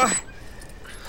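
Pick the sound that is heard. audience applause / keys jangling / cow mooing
keys jangling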